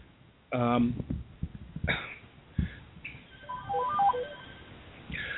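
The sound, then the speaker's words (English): A phone ringtone plays a short electronic melody of high, bright notes, rising over background noise and brief vocal sounds like a cough or throat clearing. “Should have disconnected the phone.”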